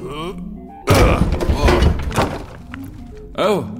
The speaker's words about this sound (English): Crom, can you knock down this door?